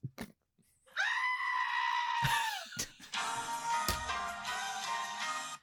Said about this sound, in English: Why is there someone screaming?